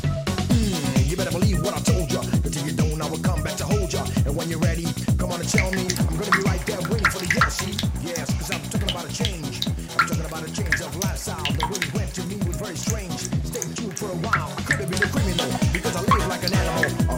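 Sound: water running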